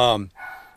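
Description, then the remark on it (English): A dog lets out a sharp bark, followed by a fainter, drawn-out yelping tone as another bark trails off in the background; the dogs live at the house. “Oh, the dogs are going in the background there.”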